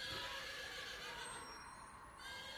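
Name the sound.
horse neighing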